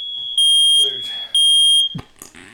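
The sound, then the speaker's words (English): A piercing, high-pitched smoke alarm blares, with two loud beeps swelling over a steady shrill tone, while people talk underneath and briefly after it. “The smoke alarm seemed to be going off.”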